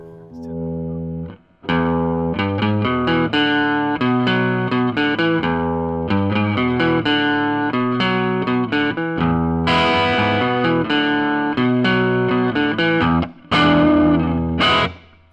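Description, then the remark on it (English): A fully hollow electric guitar on its neck pickup plays a quick, bouncy riff of repeated picked notes with a warm, slightly overdriven tone, loud and steady, with brief pauses near the start and end. “Let's hear it on the neck.”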